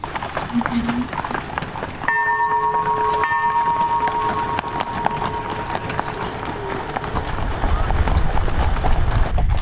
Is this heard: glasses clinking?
no